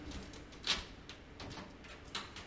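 A bird specimen cabinet drawer in case Z11C of the Division of Birds at the Smithsonian Institution museum slides open with a soft scraping rumble, a sharp metallic clack early on and a lighter click near the end. It is fairly quiet, and no one speaks.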